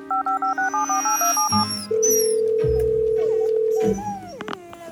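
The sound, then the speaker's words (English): A quick run of about a dozen touch-tone beeps as a number is dialed, followed by a long, steady ringing tone on the line. Loud, with no voices. “Oh, where's my phone?”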